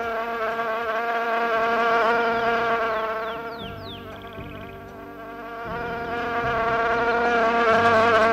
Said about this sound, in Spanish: Ya está aquí, la mosca de la tele, la mosca de la radio. Ay, que se quite la mosca, hombre.